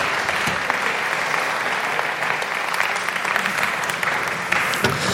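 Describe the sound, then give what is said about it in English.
An audience claps steadily and loudly for a man coming up for an onstage interview, a dense, continuous wash of applause that holds at the same level for several seconds without voices breaking through. “I want everyone to give you a big round of applause”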